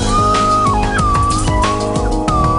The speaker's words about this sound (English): That's what they call a slide whistle.